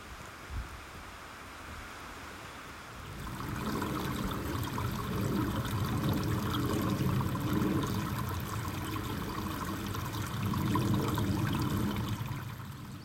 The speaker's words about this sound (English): I think it's going to be one of those days where the weather just comes in waves. You get a moment where I feel like I'm going to take my hood down because the rain stopped, and then once again it starts to cascade.